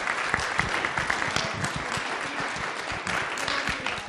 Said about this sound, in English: a round of applause.